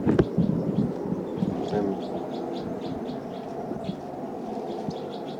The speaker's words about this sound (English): And hearing the next cell, birds calling a lot in the next cell.